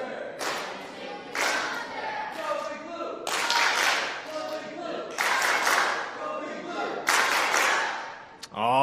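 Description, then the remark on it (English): The blue team cheers loudly in a series of repeated bursts, voices shouting together in quick waves over roughly nine seconds, with a brief sharp sound at the very end. “Blue team, come on ahead. Give us a cheer.”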